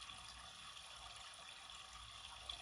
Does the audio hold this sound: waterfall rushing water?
yes